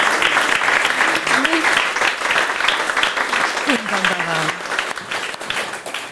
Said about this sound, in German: Ich spüre einen Applaus aufbranden und ich möchte Sie.